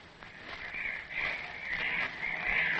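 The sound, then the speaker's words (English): Seagulls outside a lighthouse in thick fog cry in a steady run of four drawn-out, high, wavering calls, each rising and fading into the next over a soft hiss, with no voices present. “Listen to those gulls again.”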